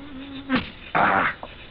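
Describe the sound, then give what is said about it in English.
A steady mosquito buzz hums for about half a second, then gives way to two short bursts of rough, hissing noise and a faint final blip. “Mosquitoes.”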